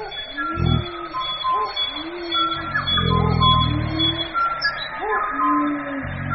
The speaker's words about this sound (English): The bird recordings and recreated songs you hear now are all of species that have disappeared from these main island forests.